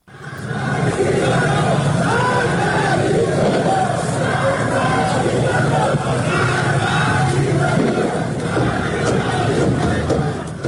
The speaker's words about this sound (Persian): در برخی از ویدیوهای منتشر شده در شبکه‌های اجتماعی معترضان شعارهای علیه جمهوری اسلامی و همچنین در حمایت از سلسله پهلوی سر می‌دهند.